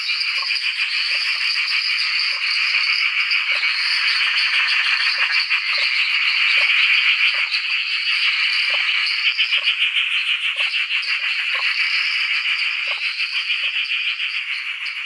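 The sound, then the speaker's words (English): A dense chorus of hundreds of Perrin's tree frogs, Tyler's tree frogs, Eastern dwarf tree frogs and a couple of tusked frogs at a back dam in Bungwall after heavy rain, calling over one another without pause, a steady high-pitched trilling wall of sound with rapid pulsing clicks, loud and continuous with no voices. “He reckons there's got to be hundreds of Perrin's tree frogs, Tyler's tree frogs, Eastern dwarf tree frogs, and a couple of tusked frogs as well.”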